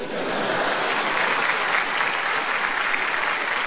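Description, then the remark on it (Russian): Steady crowd applause, many hands clapping together in a dense, even wash of noise that holds at a constant loudness for the whole few seconds, with no voices standing out. “Аплодисменты, знак согласия.”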